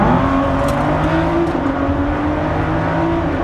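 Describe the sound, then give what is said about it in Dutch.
A Ford GT supercar engine roars loudly and continuously in a tunnel, a deep droning growl with a steady, slightly rising pitch, with no voices over it. “Tunnel. Jongens, tunnel. Wacht even.”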